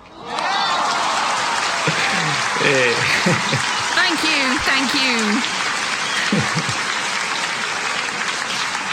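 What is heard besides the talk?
long applause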